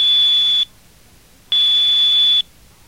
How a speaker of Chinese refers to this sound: 两个小时后，海灵再次拨电话。 你好，请按对方的分机号码。 海灵按分机号码。